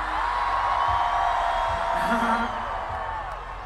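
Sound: concert crowd cheering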